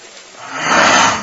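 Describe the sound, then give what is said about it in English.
A single tiger roar at night in the jungle swells from a low rumble into a loud, raspy, sustained bellow lasting about a second, heard on its own with no talking. “Have you ever heard a tiger in the night, in the jungle, and you were all alone?”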